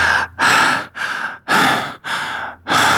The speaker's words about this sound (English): Apparently, he did too, because now she could hear him breathing in her ear.